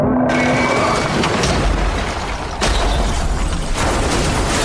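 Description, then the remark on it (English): In a Sprint TV commercial, a car driven off a cliff crashes in a loud, continuous roar of crunching, rumbling noise, with fresh violent impacts bursting out partway through and again near the end. No one speaks. “And he drives his car off the cliff and it crashes.”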